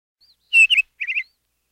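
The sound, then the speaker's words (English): A bird chirps: a faint peep, then two loud, bright chirps followed by a quick trio of shorter tweets, with silence around them. “What does a bird say?”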